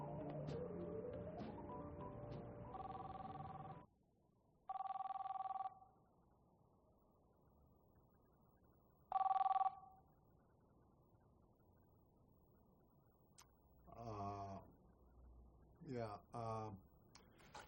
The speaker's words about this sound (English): Phone's ringing, dude.